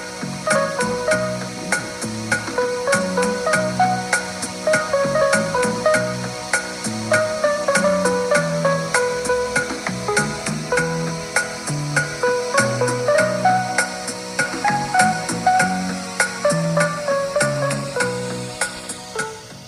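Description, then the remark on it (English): A slightly wonky-sounding piano plays at the end of a song, a busy, steady run of chords and melody notes, each struck note ringing and fading, with no voices over it. “That wonky piano at the end, so great.”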